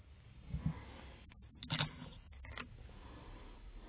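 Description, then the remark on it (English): A few quiet clicks and a soft rustle as a pair of scissors is picked up and handled at a desk, clustered in the middle of an otherwise hushed moment with no talking. “I have scissors”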